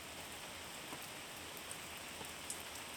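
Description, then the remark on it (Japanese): Steady rain pours down in a dense, continuous hiss, with occasional sharper drops pattering nearby. No voices, just the even wash of rainfall throughout. “雨って嫌なイメージあったけど、汗を流してくれてるみたいで、これは気持ちいい。”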